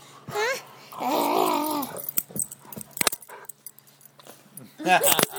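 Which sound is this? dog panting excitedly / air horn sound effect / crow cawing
dog panting excitedly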